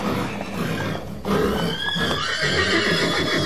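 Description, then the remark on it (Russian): A white argamak horse, rushing to its master's aid against a dragon, lets out a loud, shrill whinny with a wavering, quivering pitch, rising after a brief dip in sound and carrying over a rough, rumbling background noise. “Но успел Щербатор снять свой сапог и кинуть его в сторону коня, и бросился белый аргамак на помощь хозяину.”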